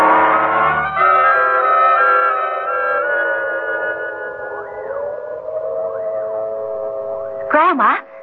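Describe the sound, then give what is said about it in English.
A prison siren wails steadily to signal a prison escape, its long droning tone slowly rising and falling, loud and sustained throughout, with a brief warbling flourish near the end. “Yes, the prison siren. There's been another escape.”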